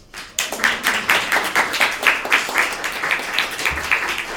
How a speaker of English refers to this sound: Can we please have a round of applause for our three readers as well as the organisers of the Melbourne Spoken Word Poetry Festival, two of whom are also here.